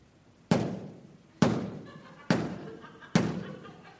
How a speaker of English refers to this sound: Avoid excessively loud thumps that sound threatening. Okay? You've got to think about how this sounds. If I knock on the door like this.